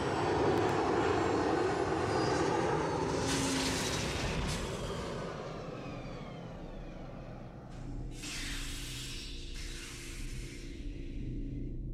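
A ship coming in to land: a loud, steady engine roar whose whining tones slowly sink in pitch, broken by a few bursts of rushing hiss near the end. No one speaks.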